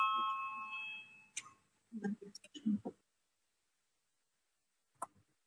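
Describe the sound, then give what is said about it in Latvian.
A sustained electronic voting bell in the Latvian parliament rings steadily for over a second before a vote, with low murmuring beneath it, then cuts off, followed by a cluster of soft knocks and shuffles and one later click. “Lūdzu zvanu, balsosim par 11. Deputātu Švecovas iesniegto priekšlikumu.”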